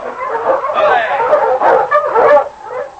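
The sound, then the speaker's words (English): A pack of sled dogs pulling a dog sled barks and yips excitedly in a steady, overlapping clamor, loud, with no pause for the whole few seconds, in heavily falling snow. “he heard a dog sled coming along behind him.”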